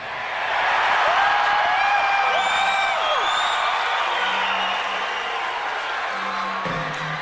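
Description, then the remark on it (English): A large crowd roars loudly and steadily for several seconds in response to a speaker, with a few shrill whistles and whoops cutting through the din before it begins to taper off. “Listening to this now, I am struck, you could say I'm disturbed, even by that crowd roar after Do We Choose Fear?”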